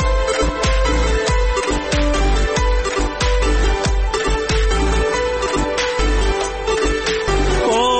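Instrumental music plays loudly and steadily, with sustained melodic tones over a regular thumping beat and crisp percussion hits, like the opening bars of a song before any singing begins.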